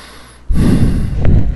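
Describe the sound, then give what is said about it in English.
After a brief quiet moment, a loud, rough, labored breath rasps and is sustained for about a second, heavy and wheezy, with no talking. “This is breathing problems.”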